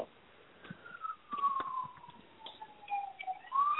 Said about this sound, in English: The siren goes by in Queens, New York. Oh, funny. Yeah, all Queens, New York is on fire. That's exactly what that was.